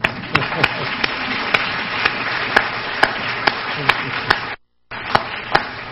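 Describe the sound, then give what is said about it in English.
An audience at the 2009 Penfield Lecture applauds in a dense, steady wash of clapping, with sharper single claps cutting through at an even beat. The sound drops out briefly near the end, then resumes. “want to raise your hands and see you and applaud.”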